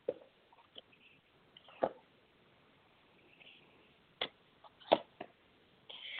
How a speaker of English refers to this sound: All right, just shuffling the cards real quick here.